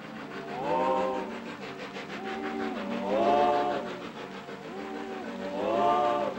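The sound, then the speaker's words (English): A circus steam train rolls along at night through a dark, heavy rainstorm, with a steady wash of noise under three slow, mournful, droning tone swells that rise and fall in a repeating pattern. “The circus train mopes through a dark, heavy rainstorm.”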